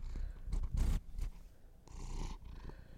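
A cat named Gus purrs in steady, rumbling cycles, with louder breathy bursts as each breath is drawn in and pushed out, and no talking over it.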